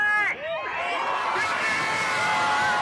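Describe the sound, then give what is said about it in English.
A large outdoor crowd at George Floyd Square in South Minneapolis chants George Floyd's name and cheers after the Derek Chauvin verdict, many voices rising and overlapping in a steady, loud roar with occasional shouts standing out above the din. “People are chanting George Floyd's name now.”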